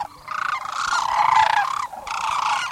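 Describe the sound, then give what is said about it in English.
Loud, continuous rattling bugle calls from some 20,000 sandhill cranes taking off at dawn in Kearney, Nebraska, overlapping at once in a dense rolling chorus with a brief dip near the end before resuming. “I was in Kearney, Nebraska to watch the sandhill cranes when they took off at dawn, 20,000 of them.”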